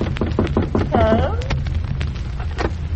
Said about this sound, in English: Go on, knock on the door.